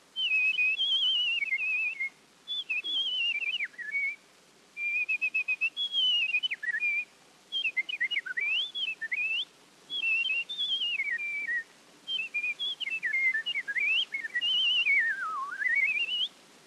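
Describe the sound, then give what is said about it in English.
A clear, high whistled meadowlark song, imitated by a person: a series of short, sliding, warbling phrases separated by brief pauses, steady, with no talking. “beginning with the meadowlark.”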